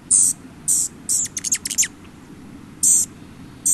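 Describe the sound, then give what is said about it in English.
A rufous hummingbird, spotted far from its natural habitat, gives sharp, high-pitched chip notes: spaced single chips with a quick stuttering run of several in the middle, over a low, steady background rumble. “And these bird enthusiasts are among the first to spot a bird like this Rufus hummingbird.”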